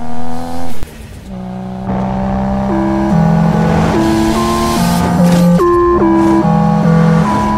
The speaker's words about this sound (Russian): Вы не встретили по дороге мою машину? Я ее обошел на перекрестке. Скоро подъедет.